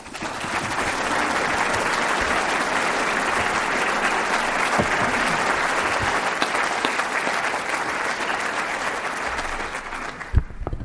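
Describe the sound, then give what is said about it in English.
A sustained round of applause from a large audience after a speech, dense and steady clapping filling the space for about ten seconds before tapering off, with no speech over it. “And that round of applause is even without the Red Sox having had a good season.”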